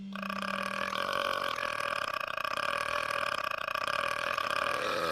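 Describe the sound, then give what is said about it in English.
A long, loud belch at a belching contest rumbles continuously for about five seconds, a deep, sustained burp with a steady, croaking tone and no pauses. “He's our best belcher.”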